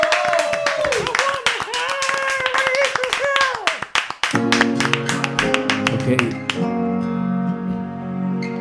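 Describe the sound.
An audience applauds with dense, steady clapping while a voice speaks over it; about halfway through, music starts up and the clapping thins out beneath it.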